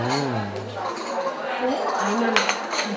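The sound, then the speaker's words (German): Cups of chai and dishes clink as they are served and set down on a table, with a few sharp ceramic knocks over steady background chatter and voices talking. “Oh, da kommt unser Chai.”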